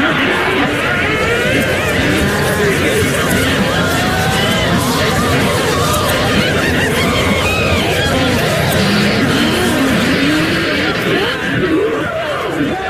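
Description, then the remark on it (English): About 100 women cackle, shriek and chatter all at once at a feast in the grand dining room of a country house. It is a dense, loud, continuous wall of overlapping voices with no pauses. “Here the raucous cackling, shrieking and chattering of 100-odd women filled the air to the rafters.”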